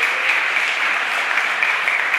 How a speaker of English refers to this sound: But today is Palm Sunday, and because today is Palm Sunday, and Psalms 100 said we should make a joyful noise unto the Lord, why don't we clap him and praise him for being in church?